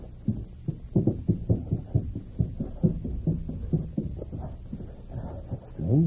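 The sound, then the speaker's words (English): A locked door is forced open: a fast run of heavy, muffled thuds and rattles, fairly loud, continuing steadily for several seconds with no talking. “Blast this lock. Hold me back. There. That does it.”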